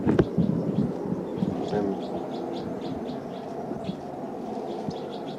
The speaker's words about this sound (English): And hearing the next cell, birds calling a lot in the next cell.